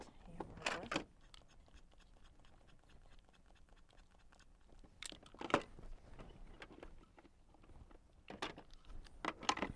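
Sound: keys jangling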